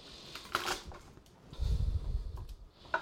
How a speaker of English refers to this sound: the flat of a metal knife, not a ceramic one, push down on the garlic. Just flatten it, squish it. That will crack the skin, which will make it come off really easily.